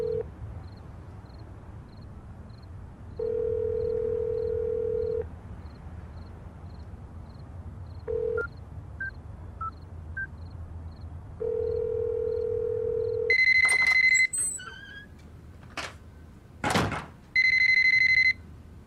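A telephone rings unanswered: long, steady electronic ring tones repeat several times with pauses between, followed near the end by brighter, higher-pitched electronic beeps. No one speaks.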